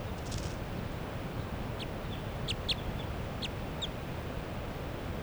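A very light-coloured wild bird, perched in foliage right next to Forty's cage, calls in response to another bird in a series of short, high-pitched chirps, roughly eight quick notes at irregular intervals, over a steady low hiss of background noise.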